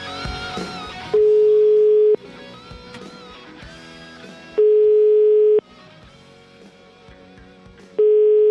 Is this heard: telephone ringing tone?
yes